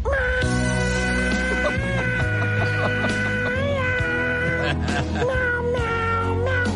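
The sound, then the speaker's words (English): Cats meowing in a rapid string, their cries pitched up and down to form a tune over a steady musical backing, loud throughout with no talking. “Meow, meow, meow, meow, meow, meow, meow.”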